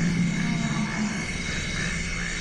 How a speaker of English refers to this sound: This next soundscape comes from the Congo. These are African forest elephants. And some of the sounds you can barely hear because their frequency is so low. They're literally at the bottom end of human hearing range and even below that.